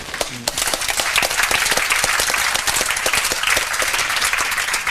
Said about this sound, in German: Großen Applaus erstmal an euch alle.